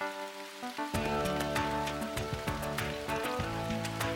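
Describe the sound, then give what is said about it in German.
Steady rain that has been falling for days patters, with scattered sharper drops ticking through it, while soft tonal music plays underneath the whole time. “Ah, seit Tagen nichts als Regen, Regen, Regen.”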